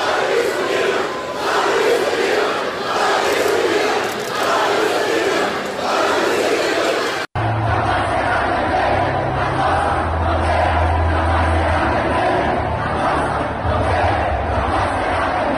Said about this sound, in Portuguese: Aglomerados, eles gritavam palavras de ordem a favor do presidente e contra o governador Wilson Lima.